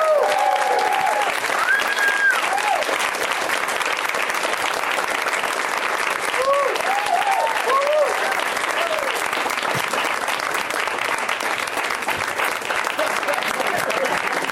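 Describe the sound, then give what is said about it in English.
Sustained applause from a large audience fills the whole stretch, steady and loud, with scattered cheers and whoops rising above the clapping. “This is a great crowd applauding that entire time.”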